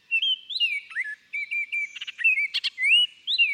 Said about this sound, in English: Songbirds like this Baltimore Oriole thrive on a steady diet of scrumptious caterpillars that are often found on trees lining city sidewalks.